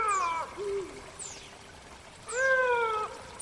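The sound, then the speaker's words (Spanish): A female Iberian lynx in heat calls with two loud, drawn-out, wavering meows separated by a shorter, lower moan, close by and with no voices present. “Lo que pasa es que este sonido, que parece pues como muy simple, es un gato grande maullando, es un lince.”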